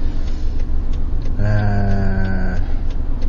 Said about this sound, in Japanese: 今、信号は青なんですが、右折待ちというか対向車が途切れるのを待ってます。